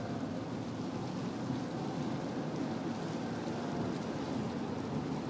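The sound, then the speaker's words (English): Sudden heavy rain pours down in a dense, steady roar, loud, with a constant hiss of drops drumming on surfaces and no voices. “And now it is raining very hard. That was very sudden.”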